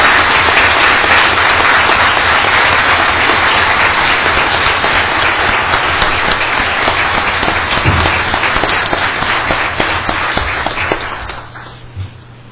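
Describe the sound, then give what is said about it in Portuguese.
Loud, sustained applause from a large audience, dense crackling claps filling the space for about eleven seconds before tapering off quickly into quiet near the end. “o nosso reconhecimento, portanto, através de uma forte salva de palmas, procurando homenagear, acima de tudo, a democracia.”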